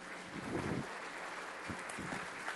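An audience applauds a helper who distributed bread, a steady wash of many hands clapping that stays fairly even for a few seconds, with no voices over it.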